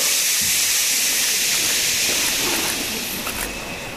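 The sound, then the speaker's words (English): A crowd in Sheffield, fingers to lips after a countdown, shushes together to show support for libraries, one long, loud, sustained hiss lasting several seconds, fading slightly toward the end, with no talking. “Are you ready for the shushing?”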